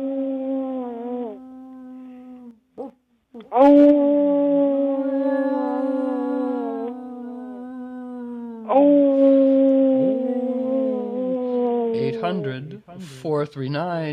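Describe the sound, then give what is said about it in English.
Two men howl like wolves to encourage listeners to pledge, in long, sustained, wavering cries that rise and fall, pausing briefly before launching into louder howls, ending in a few broken, yelping whoops. “So here's … and I howling to magnetize pledges.”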